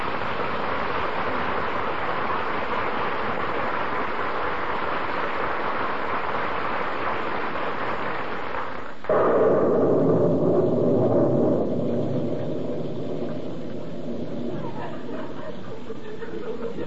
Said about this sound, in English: You shouldn't ought to stand out in the rain like this.